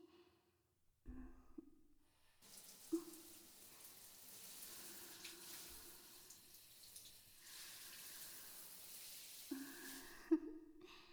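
A steady rush of running water from a shower rinsing off soap foam starts after a couple of seconds and flows continuously before cutting off near the end, with a few small knocks and splashes along the way.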